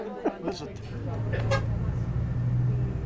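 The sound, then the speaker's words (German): A steady low engine drone and road rumble fill the inside of a moving bus travelling from Cusco to Puno on Lake Titicaca across the Altiplano high plateau, with a voice speaking briefly over it near the start before the hum carries on alone. “Im Bus von Cusco nach Puno am Titicacasee, über den Altiplano, eine karge Hochebene, lebensfeindlich und menschenleer”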